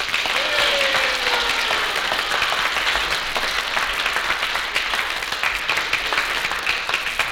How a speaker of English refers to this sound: I think there's a little lady here who deserves a lot of credit for credit. I think she deserves a little round of applause here.